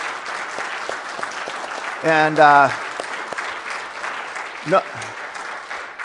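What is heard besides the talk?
audience applause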